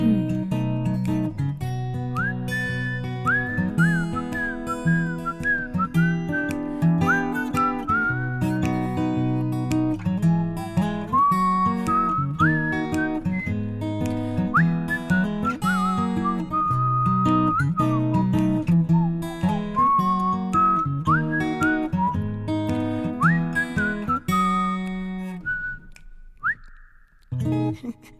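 A bright whistled melody with finger snapping glides and trills above a steady, full instrumental backing with guitar, carrying the tune through most of the track before fading out near the end.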